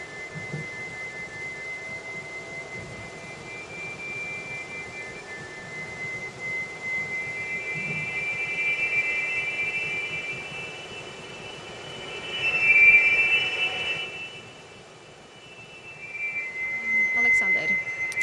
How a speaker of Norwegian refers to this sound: Det vi hører nå er altså lyden av en fiolin, altså det er spilt inn på forhånd, og så er det kontrollert gjennom mikrobevegelsene til en danser.